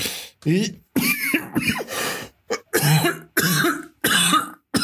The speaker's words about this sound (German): Nee, Hust, Entschuldigung.